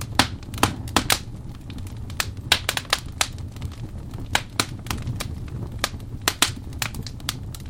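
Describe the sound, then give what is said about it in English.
A birch-log fire from Netflix's hour-long fireplace video crackles steadily, with sharp irregular pops and snaps, some loud and some faint, over a soft low rumble of burning logs. No voices. “An hour-long video of a crackling fire, or as Netflix calls it, birch logs that set the mood with glowing embers and dancing flames.”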